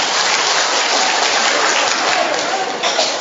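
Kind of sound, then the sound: crowd, applause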